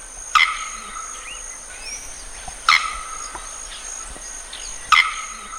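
Three sharp, explosive calls of a male bearded bellbird ring out at even intervals of about two seconds, loud, over a steady high hum of insects in the forest.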